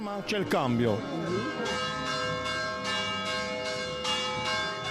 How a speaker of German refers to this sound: Aufgeregt läuten die Glocken der kleinen und großen Kirchen ringsherum.